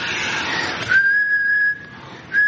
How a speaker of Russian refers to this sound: Ну, что это за свист? Это вместе с свистом сразу выходит дыхание.